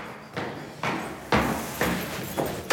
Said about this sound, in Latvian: Pirmās durvis, pie kurām ar kolēģi pieklauvējam, atver sirmgalvis.